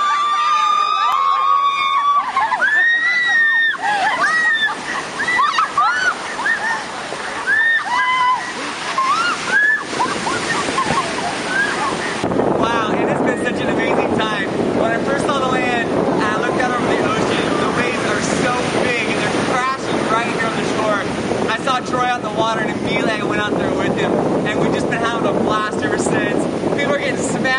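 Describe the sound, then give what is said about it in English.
Steady wind buffets the microphone as Indian Ocean waves wash ashore on a sunny beach in Mozambique in a continuous rushing roar, with people talking over the surf throughout. “on the shore, having a great time in the sand. The water's warm, the sun is great.”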